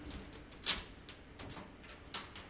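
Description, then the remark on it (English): A museum specimen cabinet drawer in the Division of Birds at the Smithsonian Institution slides open with a low scraping rumble, marked by a sharp click near the start and a second smaller knock toward the end, fairly quiet, with no voices. “Depending on which drawer you open, you'll get some very unique smells.”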